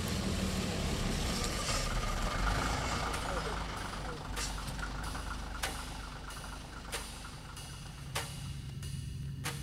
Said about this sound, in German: Der Bus. Wir steigen hinten ein, damit ich sie dann besser im Blick habe.